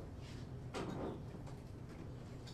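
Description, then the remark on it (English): A door swings shut with a single soft thud and brief rattle partway through, fairly quiet, surrounded by low room hum with no talking. “Would you get rid of the cat? Is there a way to do that? Close the door. Close the door.”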